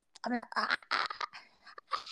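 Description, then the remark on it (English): A person imitates a dog, letting out a quick string of short, voiced bark-like yelps, with brief gaps between the bursts. “You sound like a dog”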